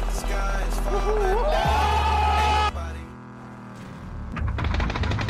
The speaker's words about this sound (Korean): 앞집에서 나는 총소리. 보안관 출동. 아마 집 뒤쪽에서 싸운 것 같군요.